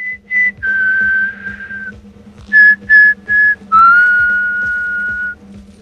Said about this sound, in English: Bender continues whistling.